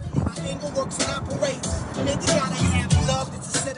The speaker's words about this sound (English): The workers pulled into the parking lot of Smithfield, honking their horns and cheering.